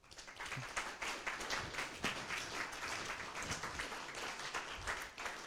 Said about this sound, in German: dann erstmal ein ganz großes Danke und nochmal einen Applaus.